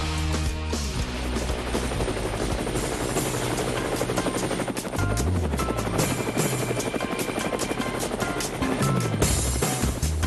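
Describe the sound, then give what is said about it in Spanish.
A helicopter's rotor chops loudly and steadily, a fast rhythmic thumping over a dense engine whine that holds at full strength for about ten seconds, with no voices. “Amigos, hoy el helicóptero ya se ha hecho casi un sello de garantía”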